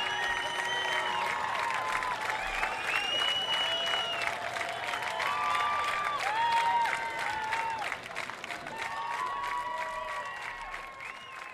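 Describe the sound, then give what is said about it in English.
A large outdoor crowd at the 50th Newport Folk Festival in Newport gives a long, sustained standing ovation in light rain, steady clapping filling the whole stretch, with whoops and whistles rising above it before easing slightly near the end. “the standing ovation continues here in the rain at Newport”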